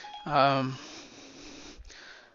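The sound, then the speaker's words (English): A short, clear electronic tone rings out once, then fades into quiet room hiss: Siri's activation chime on a phone, accidentally triggered by someone walking past it. “Oh wow, Siri thinks I asked her a question. So whatever I did there, walking by my phone triggered her.”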